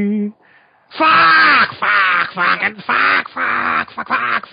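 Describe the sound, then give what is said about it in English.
A person imitates a crow with a string of loud, harsh, nasal caws, rising and falling in repeated bursts after a brief tonal sound at the start. “Holy shit, why are all these crows circling around the North Pole?”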